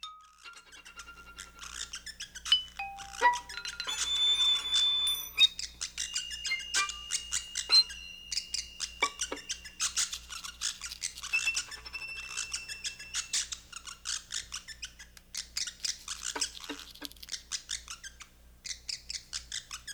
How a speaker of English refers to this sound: This is Tree Piece number 21, Bird Music, 1985, with Mary Oliver, violin, and William Wynant, percussion.